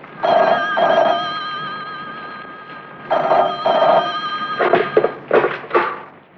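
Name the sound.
telephone ringing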